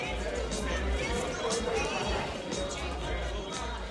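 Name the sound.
crowd chatter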